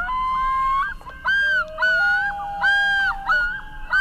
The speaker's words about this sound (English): The haunting sound there of the common loon